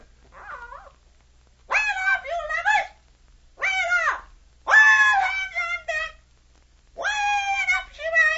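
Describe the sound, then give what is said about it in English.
A bird calls out in about five harsh, warbling bursts separated by brief pauses, loud, with no voices alongside. “The bird will tell you what to do.”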